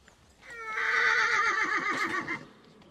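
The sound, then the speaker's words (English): A horse whinnies loudly, a single long neigh that rises, wavers and trembles for nearly two seconds before fading out. “Belgium may be a very small country, but it's amazing how many Belgians seem to find space to graze horses.”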